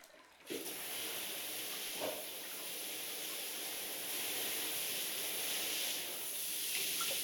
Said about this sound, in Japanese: それではお客様の体の泡を流しますので、またシャワーをかけていきます。